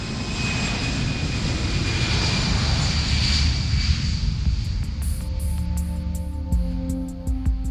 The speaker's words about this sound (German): steuern Computer sein Flugzeug durch die Lüfte. Der Autopilot arbeitet lange, komplexe Prozessketten ab.